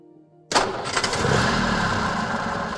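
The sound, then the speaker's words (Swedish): An eight-cylinder Ford motor car engine cranks and catches abruptly after a brief quiet hum, then settles into a loud, steady rumbling idle, with no voices. “An 8-cylinder motor car at a price acceptable to every family is surely an epochal step in automotive history.”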